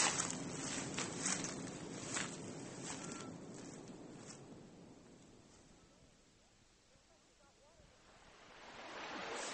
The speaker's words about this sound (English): Looks like you've got water this morning, Mr. Brown. It's flowing well. Should fill the pool in another hour.